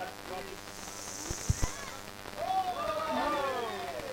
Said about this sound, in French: Bon, le bruit de la pluie, c'est pas moi qui ai décidé, c'est totalement... bon, c'est pur hasard.